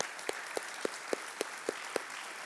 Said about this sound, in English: And so I'm going to ask our small group leader, our connection group leaders from preschool, children, youth, college, and adult, would you guys stand and remain standing? If you'll join me in applauding these folks, we're so grateful for you.